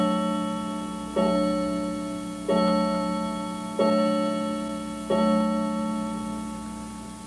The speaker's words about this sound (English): I'm going to wait for the clock to finish here.